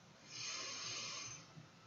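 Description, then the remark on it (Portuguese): A single deep breath, an airy rush that swells and then fades over about a second, with no talking around it. “Fazemos uma respiração profunda,”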